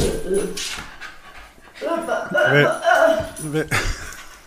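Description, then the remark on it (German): Three dogs whimper and pant, with short high whines rising and falling over several seconds while people talk over them. “Also mit 3 Hunden kann ich hier keine Podcast-Folge aufnehmen, sage ich dir.”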